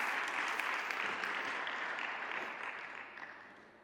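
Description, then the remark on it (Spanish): An audience applauds steadily, a dense crackle of many clapping hands that holds strong at first and then slowly fades toward the end, with no talking over it. “Yo creo que se merece un aplauso porque es prácticamente exacto, de verdad que lo digo.”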